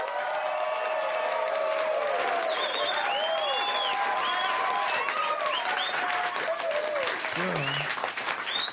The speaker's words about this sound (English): Everybody, please, a giant round of applause for Bert Kreischer and Andy Kindler. Let them hear it.